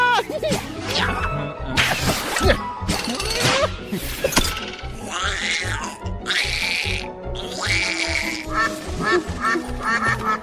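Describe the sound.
A voice imitates a duck with loud, nasal quacks, repeated in quick bursts, running almost without pause over a busy, noisy background.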